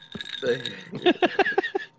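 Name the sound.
ice clinking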